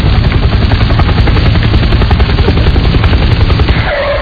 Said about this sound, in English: How come they crashed, but I'm still hearing the helicopter?